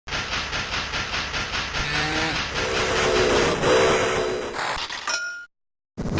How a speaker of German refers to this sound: Also der Dampf, der da aus dieser Lok rausstößt und diese kleine Pfeife, die man da hört, das ist schon, boah, das sieht schon toll aus.